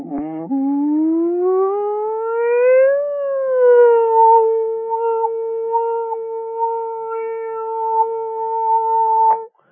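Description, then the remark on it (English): A single sustained sung tone glides steadily upward in pitch for a few seconds, dips slightly, then holds a steady, bright, siren-like note for several more seconds before stopping abruptly. The voice performs a frequency sweep to find its own resonant frequency. “So as we do a frequency sweep, I can find the resonant frequency of my voice.”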